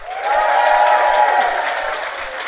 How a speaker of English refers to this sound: Give me a round of applause if you've ever heard our podcast Do Go On before.